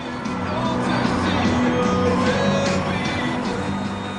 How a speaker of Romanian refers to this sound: Într-o exultanță de aplauze și cântece, 150.000 de tineri l-au primit pe Papa, care a ajuns la molul Barangaroo pe un vaporaș alb după o navigare prin golful Sydney